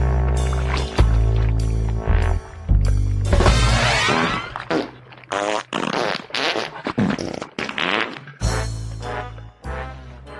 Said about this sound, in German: ist es wirklich so, dass einzelne musikalische Akzente, die werden dann einfach durch Furzgeräusche ersetzt in dem Moment